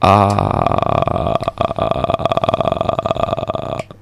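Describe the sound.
A person voices a long, guttural zombie groan, a rough, gravelly drawn-out moan with a croaking, burp-like rasp that wavers in loudness for about four seconds before cutting off.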